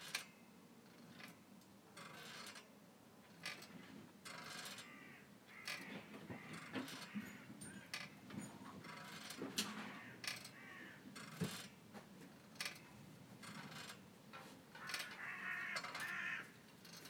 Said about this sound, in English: Go away, you ugly sounding crows.